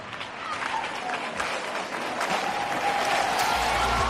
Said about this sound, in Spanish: Así, con palmas por Huelva y al grito de campeona, cientos de onubenses se dieron cita a las puertas del ayuntamiento para rendir homenaje a nuestra campeona Carolina Marín, la mejor embajadora de la provincia